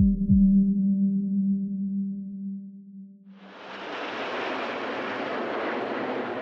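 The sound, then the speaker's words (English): A steady low droning hum gives way to a loud, rushing jet roar that swells in suddenly and holds, as Red Arrows military jets fly past at the Farnborough air show, where 200 military and civil planes are displaying. No one speaks. “The Red Arrow's just some of 200 military and civil planes displaying today at Farnborough.”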